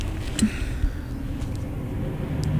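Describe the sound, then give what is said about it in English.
A heavy truck rumbles past outside, a steady low growl of engine and road noise that fills the background for a few seconds, with no one talking. “Oh, wow, that is a loud truck going by.”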